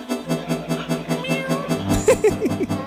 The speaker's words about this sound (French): Je crois que vous avez vu un gros minet.